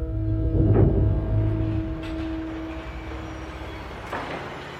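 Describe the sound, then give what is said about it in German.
Heavy construction machinery rumbling with a steady low engine drone and humming tones, broken by two sharp metallic clanks partway through: excavators shovel sand onto trucks, concrete mixers stir concrete and machines dig up the desert ground at Saudi Arabia's NEOM project. No one speaks. “Bagger schaufeln Sand auf Laster. Mischmaschinen rühren Beton. Maschinen graben den Wüstenboden auf.”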